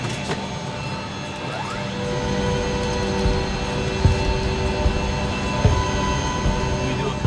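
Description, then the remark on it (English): An air tanker's auxiliary power unit starts up at a firefighting base, a loud, steady mechanical roar layered with whining tones that climb in pitch, punctuated by a couple of brief clunks. No one speaks. “I'll crank up the APU.”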